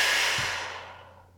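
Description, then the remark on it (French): A single forceful breath pushed out through the mouth after a deep inhale through the nose, a breathy rush that starts strong and fades away over about a second and a half, with no talking. “Prenez maintenant une profonde inspiration par le nez, puis soufflez énergiquement par la bouche.”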